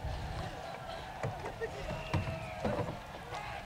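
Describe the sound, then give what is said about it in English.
Several hollow wooden knocks and clunks as oars are brought into a wooden rowboat, sounding at uneven intervals over a steady low rumble of water and background murmur. “Now bring in your oars over there and tie these two boats together as well.”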